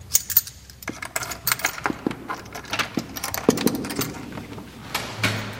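A bunch of keys jangles and clinks in a quick, irregular series of bright metallic rattles as a priest unlocks a door at the Benedictine monastery in Engelberg, with a few louder clicks and no one speaking.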